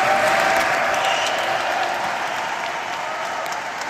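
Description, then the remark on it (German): About 1,300 workers clap and cheer inside a Paris cathedral's main nave as they gather for a ceremonial group photo during an official construction-site visit, a dense, steady roar of applause that holds loud throughout and eases off slightly toward the end. “Als die 1300 Männer und Frauen im Hauptschiff der Kathedrale zum feierlichen Familienfoto antreten sollen, bricht plötzlich Jubel aus.”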